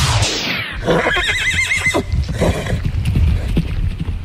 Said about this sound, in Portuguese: Era cavalo.